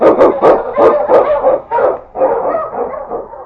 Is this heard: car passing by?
no